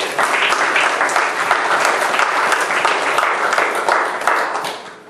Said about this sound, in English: And I know you enjoyed them. Give these guys a hand of applause.